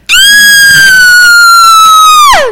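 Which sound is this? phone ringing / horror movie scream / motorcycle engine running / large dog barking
horror movie scream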